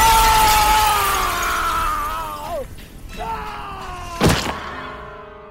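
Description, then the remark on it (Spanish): A single sharp, loud crash of breaking window glass bursts out near the end, after a stretch of low, wavering groaning tones and rumble, as a man's body smashes through a closed window. “Rompiendo el vidrio, su cuerpo voló tres pisos, estrellándose contra el frío concreto de la calle,”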